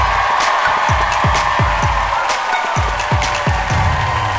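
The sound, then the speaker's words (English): A comedy show crowd cheers and applauds loudly and continuously as the evening's final act, a comedian, is brought up, with a steady, rhythmic low thumping beat pulsing underneath the whole time. “Please give it up for”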